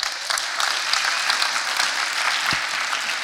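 A church audience applauds steadily, dense overlapping claps at an even, moderately loud level for a few seconds, with no one speaking.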